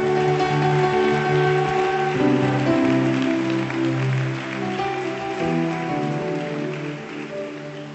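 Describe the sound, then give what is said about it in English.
An audience at a morning church service claps steadily and continuously as a clap offering to Jesus, over sustained, held musical tones that shift in pitch. The whole mix stays fairly loud for the full stretch, with no voices. “Give a clap offering to Jesus this morning.”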